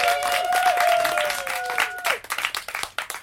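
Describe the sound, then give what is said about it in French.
A crowd bursts into dense applause, with a long sliding whistle riding over it, before the clapping thins out into scattered individual claps and fades. “Et maintenant, sous les applaudissements ébahis de la foule, la phrasette.”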